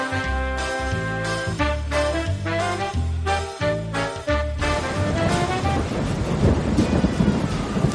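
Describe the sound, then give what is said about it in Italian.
A short rhythmic musical jingle plays first, then gives way to a steady roar of heavy rain with deep rumbling thunder underneath, loud, with no voices. “Mannaggia come piove!”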